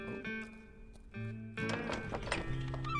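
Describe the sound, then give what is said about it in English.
Horses clip-clop, hooves striking in an uneven patter that grows louder midway, while a drawn-out neigh rings over the steps. “Plenty of room for the horses.”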